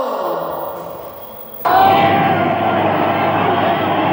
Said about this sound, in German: Erwacht das Fernsehgerät zum Leben und eine jubelnde Menge in Schwarz-Weiß spendet wirklich jedem Redner tosenden Beifall.